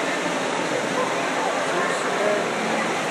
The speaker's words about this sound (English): We've already passed a couple fountains, and there are more fountains in this area here where we're at. You can probably hear them. Along with all the other echoes and stuff that's in the room.